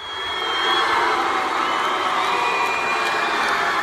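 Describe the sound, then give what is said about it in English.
A large crowd roars with mixed cheers and boos, a dense, sustained wall of shouting voices, loud and continuous throughout, after a Texas high school state championship wrestling match won by a transgender wrestler. “Here's the crowd cheering and booing after the match.”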